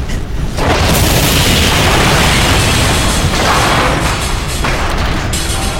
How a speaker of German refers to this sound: Die Strahlerschüsse und die Detonation verwandelten die Einschlagstellen in glühende, rauchende Löcher und entflammten flackernde Feuer.